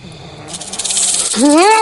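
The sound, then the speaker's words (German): A hand rattle shaken rapidly by Huck to wake the sleeping Jim at the camp on Jackson Island, giving a dry, buzzing burst for about a second, then a startled, wavering voice cries out. “Huck klappert mit seiner Rassel.”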